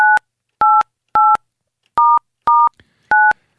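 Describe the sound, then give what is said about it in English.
Six short two-note telephone keypad tones beep one after another at a fairly steady pace, each with a slightly different pitch pair, clear and loud with no talking, as an international number starting 011 and country code 44 is dialed to reach Buckingham Palace. “I interrupted my dialing with it.”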